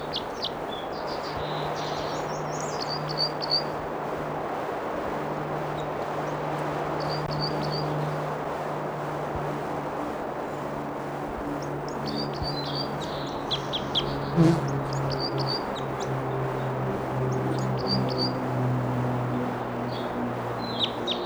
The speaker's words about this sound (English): Flight calls here.